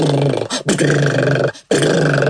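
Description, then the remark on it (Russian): A voice imitates a stuck toy car motor in a children's play game with a loud, rough, growling rumble, broken into three sputtering bursts by two brief pauses. “Или мотор там застрял.”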